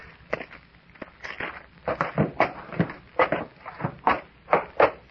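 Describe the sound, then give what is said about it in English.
Footsteps climb a set of wooden steps leading up to a trap door on the floor above, about a dozen heavy, slightly uneven thuds quickening toward the end, with no voices. “Steps going up to the trap door on the floor above.”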